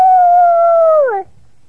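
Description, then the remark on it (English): A voice imitates a dog howling at the moon: one loud, sustained howl that holds a steady pitch for about a second, then slides downward and cuts off, with no other sounds around it. “How do they bark at the moon?”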